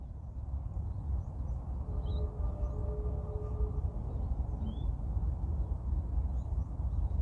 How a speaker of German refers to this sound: Jetzt darfst du noch mal eine kurze Runde auf diese Vögel hören.